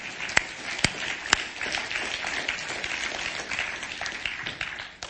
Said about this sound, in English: Will you clap your hands this morning?